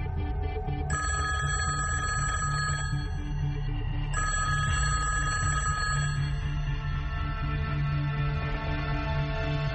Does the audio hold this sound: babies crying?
no